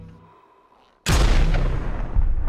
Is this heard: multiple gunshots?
yes